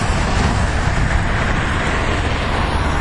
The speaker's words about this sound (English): So you can kind of hear a little bit of distortion in these cars.